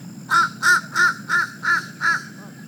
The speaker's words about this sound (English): Until late February, when you suddenly hear what sounds like a crow with a cold, or maybe the Fran Drescher version of a crow.